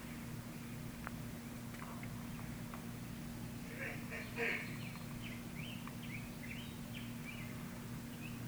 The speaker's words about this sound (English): the sound of the birds, the feelings in your body, the thoughts in your mind, knowing that what is truly expansive in you is beyond the sounds, beyond the feelings, and beyond the thoughts.